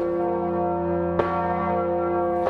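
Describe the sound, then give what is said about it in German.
A massive 10-ton church bell rings with deep, sustained tones and rich overtones, its loud strokes recurring slowly and swelling over a continuous resonant hum, as passers-by pull its ropes to the ground to swing it, guided by experienced bell-ringers. No one speaks. “Immer im Takt des Geläuts. So gewaltig ist die Wucht der 10-Tonnen-Glocke”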